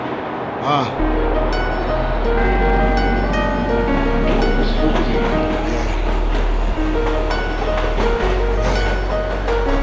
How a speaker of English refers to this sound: Welcome to the subway. That's where I'm at.